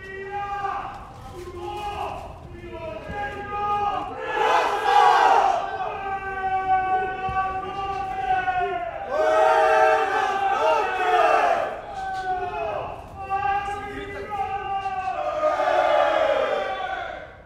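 Many male inmates in a prison reception area shout and yell over one another during the nightly 10 p.m. shutdown routine, in loud, overlapping bursts, with rising hollers swelling and fading in waves throughout.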